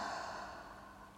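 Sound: inhale through nose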